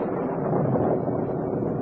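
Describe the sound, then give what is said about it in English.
A deep, steady roll of thunder rumbles continuously for a couple of seconds, loud and broad like a storm closing in, with a windy roar mixed in and no voices. “There's the storm.”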